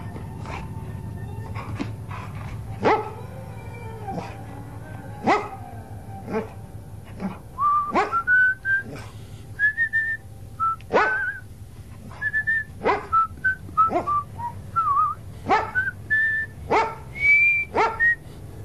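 In a radio adaptation of Wilhelm Hauff's novel The Spessart Inn, a dog running ahead barks repeatedly in sharp, irregular bursts throughout, and partway through, a series of short, high whistled notes joins in between the barks over a low rumbling background.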